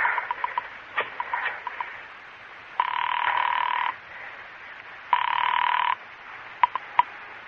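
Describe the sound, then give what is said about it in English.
A telephone is dialed with a few quick clicks, then rings twice in long, buzzing bursts, followed by a couple of sharp clicks as the line picks up. No one speaks. “Pick up the phone, dial a number.”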